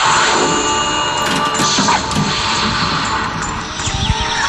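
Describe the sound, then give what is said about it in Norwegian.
A Tales of the Arabian Nights pinball machine, themed on 1001 Nights, being played by its owner going for the golden symbols at the Norwegian Pinball Convention 2005: steady mechanical clatter and rattling thumps under bright electronic tones and jingles, loud and continuous, no voices. “Det en av dine maskiner. Det en av mine maskiner, og nå fikk jeg beskjed om å go for the golden symbols.”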